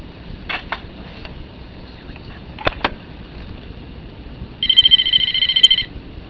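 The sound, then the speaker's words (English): A telephone rings for an incoming caller to an on-air call-in show with a bright, warbling electronic trill lasting just over a second, preceded by a few soft clicks and taps over a low background rumble. “With that intro, let's take some calls.”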